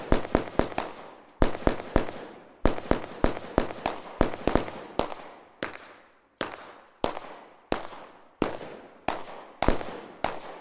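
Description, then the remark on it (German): A rapid series of sharp gunshots in a theatre play, some fired in quick bursts and others spaced out, each loud crack followed by a short reverberant tail. No one speaks. “Das Problem war also, dass die Schüsse, die wir hier gehört haben, die Tiere verschreckt hätten, ja?”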